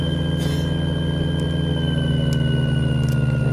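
Steady mechanical whine from a helicopter gearbox, played as the isolated gear layer of a helicopter sound mix: a constant low hum layered with thin, sustained high-pitched tones, running loud and unchanging without any talking.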